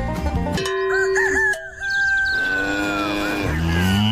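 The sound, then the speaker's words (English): A cow mooing sound effect, the KLOS radio station's cash cow: a long, drawn-out bellow that slides downward into a deep, low moo, with a bright, crowing-like call just before it and no talking. “That sounds like the KLOS cash cow.”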